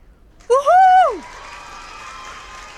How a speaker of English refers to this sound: This last one is for all our special guests here today. Let's give him a big cheer. You ready?